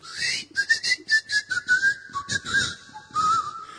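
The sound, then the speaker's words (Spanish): A person whistles a wavering, tuneful line of short connected notes, steady in loudness, with breathy bursts of hiss riding along with the melody. “…, silba por ahí.”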